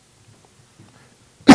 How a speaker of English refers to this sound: I think I'm going to cough the rest of the day, but Christians, listen.